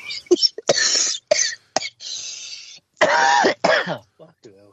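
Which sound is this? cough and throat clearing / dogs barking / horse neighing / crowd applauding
cough and throat clearing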